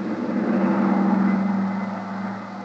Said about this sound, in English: drove us to the airport and then, much to my surprise, took over as pilot of the huge private two-engine plane that was waiting for us. Within a few minutes, we were airborne and on our way.